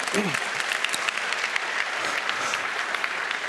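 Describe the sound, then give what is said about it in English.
A steady wash of audience applause at a talk, many hands clapping in a dense, even crackle that holds at a fairly constant level throughout, with a brief voice fragment near the start; the applause honours Bunny Huang, who builds open hardware. “When, you can applaud that if you wish.”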